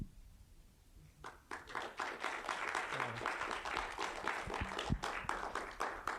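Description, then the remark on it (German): Audience applause at the end of a talk breaks out after a quiet first second, a dense wash of many hands clapping that holds at a steady, moderately loud level until the end. “So, jetzt mache ich noch nach dem Applaus, sorry.”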